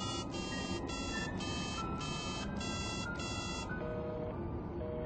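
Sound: telephone busy signal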